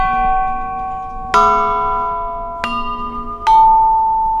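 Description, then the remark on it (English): Metal chimes of different lengths and diameters ring out in three separate struck notes, each a bright attack followed by a long, shimmering sustain, layering over the fading tones of earlier strikes with no talking. “There are larger instruments as well, chimes in different lengths and diameters.”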